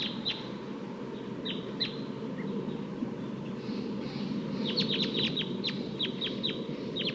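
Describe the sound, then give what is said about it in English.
Wild crossbill calls from the top of a tall eucalyptus tree: short, sharp chip notes given in quick clusters, a few early on and a longer run near the end, over a steady low rumble of background noise. “I'm down by the test birds, and there's a wild crossbill on top of a tall eucalyptus here.”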